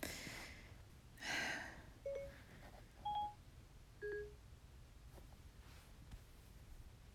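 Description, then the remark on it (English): Three short dual-tone phone keypad beeps sound about a second apart, quiet, following a brief rustling burst. No one speaks. “Okay, fine. Fine. I'll pull out my phone.”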